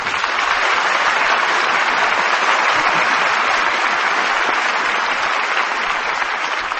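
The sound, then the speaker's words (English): Sustained, loud applause from the Lux Radio Theater studio audience as stars Van Heflin and Janet Leigh come downstage, a dense steady wash of many hands clapping that holds at full strength for about seven seconds with no voices on top. “Well, I think that applause says it all.”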